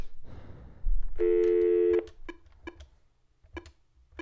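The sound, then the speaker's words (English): A phone gives a steady electronic tone for under a second, followed by a handful of short, irregularly spaced keypad beeps as a number is dialed, clear with no talking. “Okay, we're gonna call back.”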